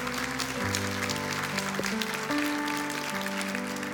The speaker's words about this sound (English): And if you dare to agree with these things, he said, come on, can we give a good clap to the Lord today?